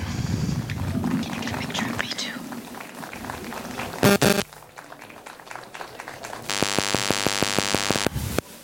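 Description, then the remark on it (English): An audience claps warmly for a few seconds to welcome introduced performers, a pianist among them, a dense patter of many hands that then stops abruptly, followed by a quieter stretch and a steady electronic tone near the end. “A warm applause.”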